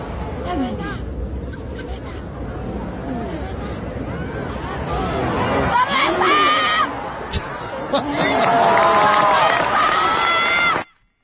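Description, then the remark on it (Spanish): A beer vendor's loud, drawn-out shouts calling "beer" cut through the steady hubbub of the crowd at the Plaza de Toros bullring in Mexico during Rafael Nadal's exhibition match against Casper Ruud, with chatter, applause, chanting and bursts of cheering all around, the shouting growing stronger toward the end. “Pues es que no puede, hace muy bien, tiene que respetar el silencio, pero cuando la gente está aplaudiendo y coreando, pues grita su producto, me parece bien.”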